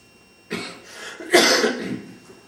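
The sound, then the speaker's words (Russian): A few harsh, breathy coughs, a shorter one followed by a louder, rougher burst that trails off, with no talking. “Ведь кашель выдавливает из тебя, ну, какие-то твои старые свойства.”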